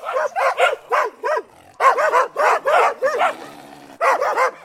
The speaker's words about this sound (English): This is a sample from the Ultimate Real World Dog Sound Effects Library.